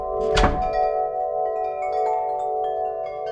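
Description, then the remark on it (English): A large chime hanging just outside the Celestial Winds Harmonic Bazaar gallery, where Farbiash makes his chimes, is struck once with a sharp thunk, then rings on with several steady, overlapping mid-pitched tones that hum and shimmer for the rest of the moment, loud and unaccompanied by voices. “The chime hangs just outside his gallery, Celestial Winds Harmonic Bazaar.”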